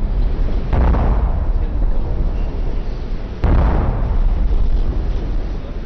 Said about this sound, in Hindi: शपथ ग्रहण के फौरन बाद पारंपरिक 21 तोपों की सलामी भी दी गई।